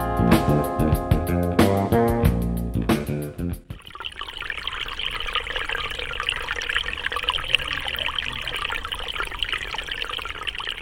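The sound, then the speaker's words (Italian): A short melodic musical passage opens, then cuts to a steady, fairly loud rush of flowing water, continuing evenly with a bubbling, splashing texture until the end; recorded in late winter 2022 in a greenhouse at Officine Gramigna, an agricultural project in Rocca Bascerana, Valle Caudina, Italy. “Silenzio, gli odori, lo scorrere dell'acqua, il calduccio della serra.”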